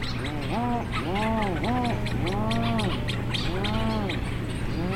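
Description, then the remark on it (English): Low, moaning moo-like calls from a seabird colony before dawn, after the petrels die down, rise and fall in overlapping arched waves that sweep across the whole colony, several birds calling at once over a steady background rumble, with no talking. “and then as the light starts coming back, the petrels die down, and then it's just this really, these waves of these moos that kind of sweep across the whole colony.”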